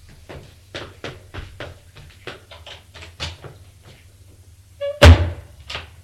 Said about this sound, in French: La porte de la salle de bain vient de se fermer.